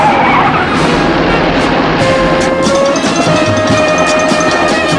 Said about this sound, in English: The driver pulls the car up at the entrance to the Finchley house.